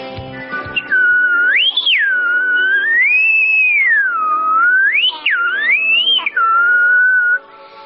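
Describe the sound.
A girl's clear, high whistle imitates birdsong, its pitch swooping smoothly up and down with a few quick warbling trills in between. It is loud, steady and alone, with no talking.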